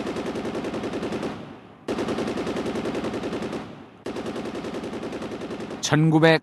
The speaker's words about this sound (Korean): 1995년부터 98년까지 조선 전역에서는 쉴 새 없이 총소리가 울렸다.